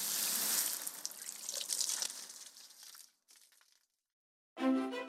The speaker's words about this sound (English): first I have to finish watering the grass because, according to the internet, if you don't water it for 15 minutes, your grass will die and your life will be ruined and everything will be horrible.